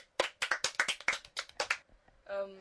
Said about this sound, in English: And an applause for Lucas again.